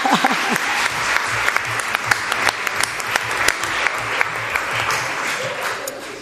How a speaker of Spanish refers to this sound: Un aplauso para quien dijo que no.